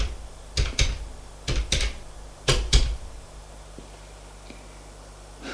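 Someone dialing a telephone for a second attempt at a call: three pairs of sharp clicks in quick succession, each pair spaced about a second apart, followed by near silence with a couple of faint ticks.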